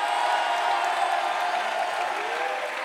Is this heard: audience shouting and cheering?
yes